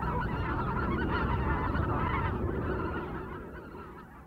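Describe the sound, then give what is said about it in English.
A large flock of white-fronted geese honks continuously, a dense overlapping chorus of many calls, steady and loud before fading slightly toward the end, in winter at Threave. “and if we go to the winter, Threave is another place again, with the spectacle of large numbers of wildfowl, hooper swans, pintail, and a real classic, I think, of the green and white-fronted geese.”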